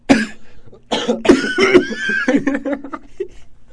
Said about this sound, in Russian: Вот тут еще болезнь, немощь. Сейчас я кашляну, подожди.